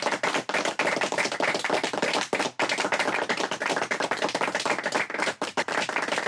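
audience round of applause

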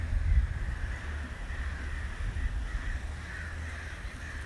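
crows cawing overhead

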